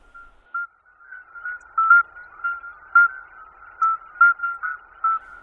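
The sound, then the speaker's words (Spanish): Midwife toads (Alytes) calling: a run of about a dozen short, pure, high-pitched whistling beeps at a steady pitch, spaced a little unevenly, moderately loud against a quiet background with no voices. “En este caso se trata de alites. El alites es el sapo partero, que también hay por Murcia en algunas poblaciones.”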